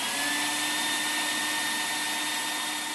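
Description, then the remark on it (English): A computer-controlled CNC router, among a library's Maker Station facilities, runs steadily, a loud continuous whirring roar with a high-pitched whine held throughout, no pauses or changes in pitch, and no voices. “And now those facilities include a CNC router, a computer-controlled power tool that cuts wood, plastic, and some metals.”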